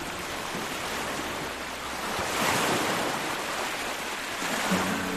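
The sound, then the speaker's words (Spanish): Sea waves wash in a steady, broad roar of surf, swelling slightly louder midway and again near the end, with a faint wind rush and no voices. “Es el sonido del mar que escuchasteis ayer y antes de ayer.”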